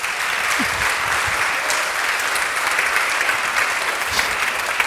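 A live audience applauds steadily and loudly to welcome two guests on stage, actor and comedian Sissela Benn and concert pianist Franziska Skog: a dense wash of clapping hands that holds at an even level for the whole stretch, with no voices rising above it.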